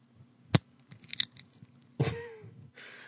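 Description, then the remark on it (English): Crisp crunching of very hard, crispy dried contact lenses that look like a clear snail shell, being crushed: one sharp snap, a cluster of small crackles, then a longer grinding crunch with a faint squeak, with no talking. “It's just my contacts that are very hard and crispy.”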